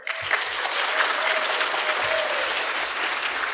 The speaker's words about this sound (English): clap if you think he got it